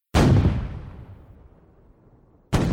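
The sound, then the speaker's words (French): A loud, booming cannon shot from a defensive tower guarding the harbour entrance of Toulon, France, with a long rumbling decay that fades over two seconds, followed abruptly by the onset of a second blast at the end. No voices. “Imagine à l'époque, lorsque des ennemis approchaient, les tirs des canons des deux tours permettaient de bloquer l'entrée du port.”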